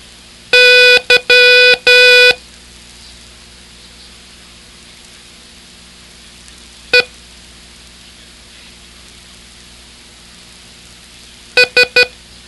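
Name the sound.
morse code beeps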